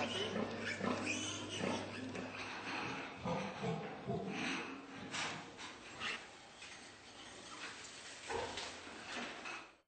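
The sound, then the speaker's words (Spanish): Pigs squeal loudly and shrilly, with overlapping piercing cries and grunts coming in rapid, continuous bursts for the whole stretch, with no talking, as sharp pincers cut off part of their tails a few days after birth. “Unas tenazas afiladas amputan parte del rabo de los cerdos para evitar las mordeduras provocadas por el estrés que causa una vida de confinamiento.”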